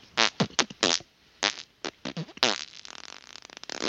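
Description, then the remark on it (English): A voice blows a string of wet, buzzy raspberry fart noises with the mouth, several short rhythmic bursts followed by a longer sputtering stretch that trails off into rapid flutters. “Yeah, I guess there would be kind of that farty backbeat underneath the cheery theme.”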